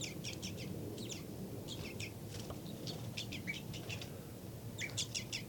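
Quick clusters of high, thin flight calls from the bird labelled 5-9 in a cell repeat in short bursts of three or four notes over a steady low rumble, with a few brief pauses between groups.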